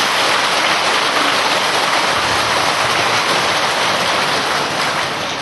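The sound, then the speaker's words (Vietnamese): A crowd at a Buddhist gathering applauds steadily for several seconds to congratulate a Buddhist teacher, a dense, even wash of many hands clapping at once with no voices rising above it. “Xin một tràng pháo tay để chúc mừng thầy.”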